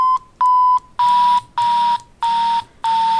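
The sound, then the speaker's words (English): A graphing calculator's negative-value tone, sounded as the graph is traced with the arrow keys: six steady mid-pitched beeps in an even rhythm, the first two pure and the last four overlaid with a hissy, static-like buzz. No one speaks. “You hear the negative sound.”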